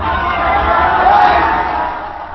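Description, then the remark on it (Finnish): A crowd of demonstrators roars and cheers continuously as the locked door of the Helsinki University student union building is opened and they rush inside, a loud dense mass of shouting voices that swells toward the middle and eases slightly at the end. “Ja nyt saatiin ovi auki ja väki ryntää avonaisesta ovesta sisään.”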